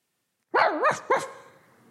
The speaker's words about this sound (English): Her eyes caught eyes with the dog, and one more bark caused her to get so afraid, she leaped into her father's arms.